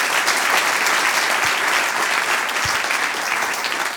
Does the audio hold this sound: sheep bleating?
no